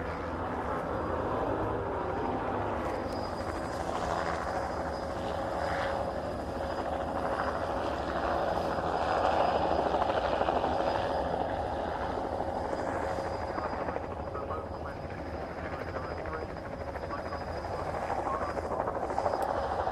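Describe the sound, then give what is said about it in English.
A helicopter drones steadily overhead at a motorsport venue for the whole stretch, a loud, continuous rotor and engine roar that swells slightly in the middle before easing off a little. “Helicopter goes off again.”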